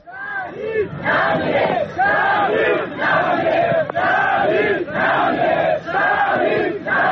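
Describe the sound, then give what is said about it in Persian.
A large crowd chants the slogan 'the martyr does not die' in unison at the funeral of Hamid Moradi, a lawyer and environmental activist. The chant is loud and rhythmic, the same phrase repeating in steady bursts separated by short breaths, many voices blending into a dense roar. “پیکر حمید مرادی وکیل دادگستری و فعال محیط زیست که در جریان مهار آتش‌سوزی کوه آبیدر سنندج جان خود را از دست داد، به حضور گسترده مردم و در میان شعار شهید نمی‌میرد تشییع و به خاک سپرده شد.”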